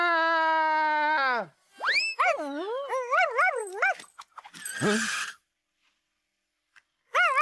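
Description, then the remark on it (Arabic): A dog whimpers and yelps: a long, steady high whine, then rising, wavering cries, a short harsh bark-like burst, silence, and a brief final whimper, close and fairly loud. “الكلاب لا تطير، أفهمت ذلك؟”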